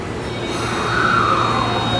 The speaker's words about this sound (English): I am currently at Otemachi Station, which is one of Tokyo's largest train stations, as well as one of the busiest in metropolitan Tokyo.